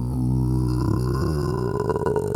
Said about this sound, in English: Oh, well, burp, burp, burp.